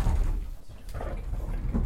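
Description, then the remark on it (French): A bathroom sliding door rolls along its track with a low rumbling scrape, steady for about two seconds, ending with a soft bump as it stops. “La carte de la salle de bain qui coulisse.”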